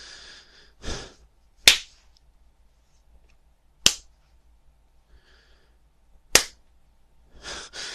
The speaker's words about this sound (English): Turn around, actually. Daddy wants to get a good look at her, at your ass while he slaps it.